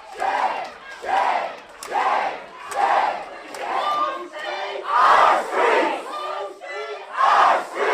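A crowd at a city council meeting chants in unison for nearly half an hour, loud repeated phrases surging in a steady rhythm about every half second to second, voices blending into a rough collective roar with no single speaker standing out.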